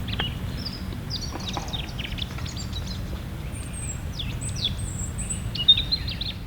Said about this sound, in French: Alors, première leçon aujourd'hui, le rouge-gorge, que je vous ai montré tout à l'heure. Voyez ce chant, c'est une très jolie strophe, flûtée, assez aiguë.